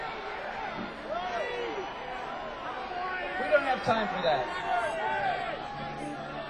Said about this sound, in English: Okay, I can't understand you. You all yell at once, okay?